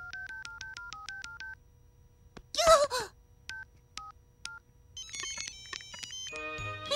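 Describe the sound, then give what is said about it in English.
Rapid, overlapping beeps of keys being pressed on mobile phones by children in a class, texting and playing games, with a brief vocal outburst in the middle and chirpy electronic game tones layering in near the end. “The children are all busily tapping away on their mobile phones.”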